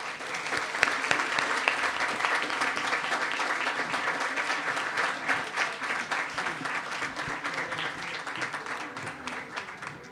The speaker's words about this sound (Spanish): Y un gracias y un aplauso para todas ustedes.